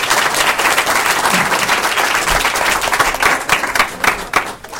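An audience applauds steadily, a dense wash of many hands clapping at an even loudness that thins out slightly toward the end.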